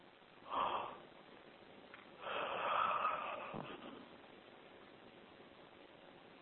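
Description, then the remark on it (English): A breathy yawn: a short sharp intake of air, then a longer drawn-out exhale lasting over a second, with no talking and quiet background hiss afterward. “For those of you who are new, I yawn a lot when I'm working with a group of people, and that yawning helps me release the energy of the connection, release any extra energy that I'm experiencing from the connection with everyone.”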